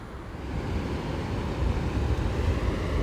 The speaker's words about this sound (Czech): Tak nechala jsem vás chvíli poslechnout si zvuk oceánu.